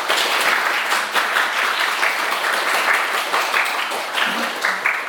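A crowd at a church worship service applauds steadily in thanks to the New Life team, many hands clapping in a dense, continuous patter that holds an even loudness for about five seconds with no voices standing out.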